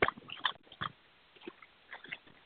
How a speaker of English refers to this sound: Somebody's by the phone. Do you realize all that's making a lot of noise? Like if I take an envelope.